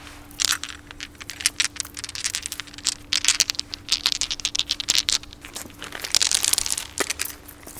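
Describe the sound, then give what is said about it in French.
Dice clicking and rattling together in a hand, a steady stream of small, irregular clacks with some rustling, and no voices. “C'est mes dés. Mais là, il n'y en a que 5.”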